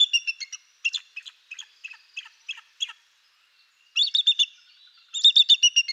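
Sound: bald eagle calls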